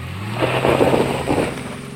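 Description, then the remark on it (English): A car engine hums steadily for about two seconds as a car is driven, a low droning rumble with a slight rise in pitch, moderately loud, with no talking. “How do your parents drive a car? This is how they drive a car.”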